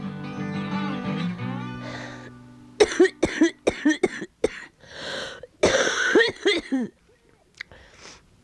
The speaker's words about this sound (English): It's funny, sometimes I cough so hard that I can see stars.